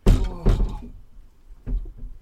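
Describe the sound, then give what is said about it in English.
A couple of doors being opened to let in fresh air, heard as a few hollow clunks and thuds: two quick ones near the start, then another after a short pause, with faint rattling in between. “I'm opening up a couple of doors as well, because we need some fresh air in here.”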